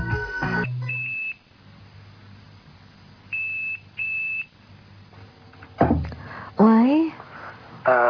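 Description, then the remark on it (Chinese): A few short, high electronic beeps from a telephone answering machine, one then a pair, sounding clearly over a low hum, with voices speaking briefly at the start and end. “啊，佢话佢爱上咗我电话录音机，我谂我都系啊。”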